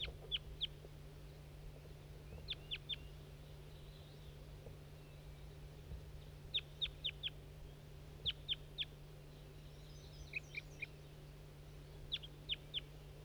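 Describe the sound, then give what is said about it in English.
A wild bird calls in short bursts of high, sharp notes, usually three or four in quick succession, repeating every couple of seconds over a steady low hum. “That's that wild bird that was tubing.”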